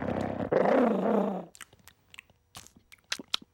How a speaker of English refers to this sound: The dog attacks him.